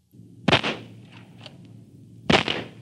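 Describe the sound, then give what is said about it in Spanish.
Two sharp gunshots ring out about two seconds apart, each a loud cracking blast with a brief echoing tail, over a low steady rumble and no talking. “El disparo del invasor había dado en el blanco y el indio, tendido sobre la tierra, no podía moverse, aturdido por el dolor y el estruendo.”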